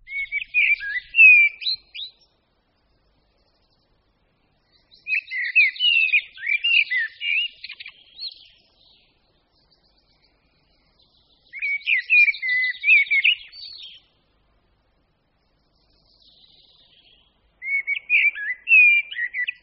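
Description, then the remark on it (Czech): A common blackbird sings its melodic, fluting song in four clear phrases separated by pauses of a few seconds, fairly loud against an otherwise quiet background with no talking. “Známý melodický zpěv patří kosu černému.”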